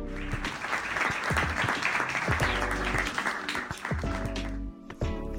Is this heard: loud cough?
no